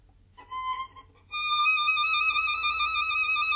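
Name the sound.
musical trill imitating birdsong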